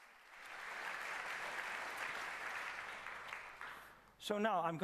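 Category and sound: crowd, applause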